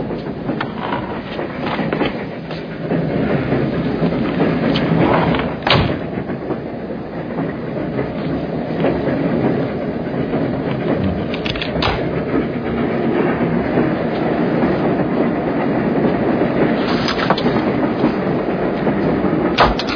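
A train carriage rolls steadily along the rails, a continuous broad rumble with occasional sharp clacks breaking through every few seconds. No one speaks.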